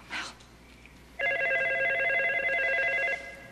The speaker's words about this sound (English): Then she glances at the phone in frustration. Mel goes to answer it.